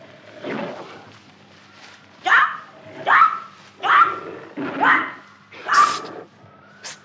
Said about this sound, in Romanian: Ai auzit? Asta e o panteră.